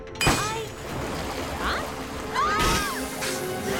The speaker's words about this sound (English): Water bursts from pipes.